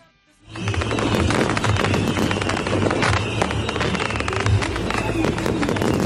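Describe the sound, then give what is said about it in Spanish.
A loud, dense barrage of fireworks bursts and crackles almost nonstop, rapid pops overlapping into a continuous roar after a brief quiet start, with faint crowd noise underneath. “Prohibir los fuegos artificiales es una de las últimas medidas que ha tomado el gobierno francés”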